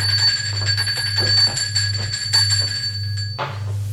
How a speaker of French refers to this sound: Donc, sonne à la porte.